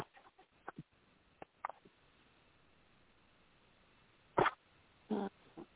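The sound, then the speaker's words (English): A dog barks in short, sharp bursts: a few faint yips early on, then two louder barks near the end, with quiet background hiss in between and no talking. “Okay, I have an aggravating dog in the background that's bothering me right now.”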